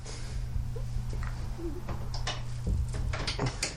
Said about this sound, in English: And we're going to pause for a moment while we close the door.